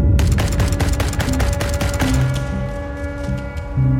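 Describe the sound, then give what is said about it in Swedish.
Rapid, heavy machine-gun fire rattles in sustained bursts, shooting over troops, loud, with dense repeated shots over a low rumbling background. “Det är så här, dunk, dunk, dunk, dunk, dunk, så här tung kulspruta som de låg och sköt över oss.”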